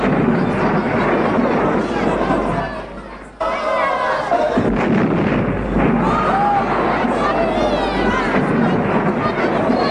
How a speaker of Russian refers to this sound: Это в его память салют. В память всех, кто не пришел, не вернулся, но победил.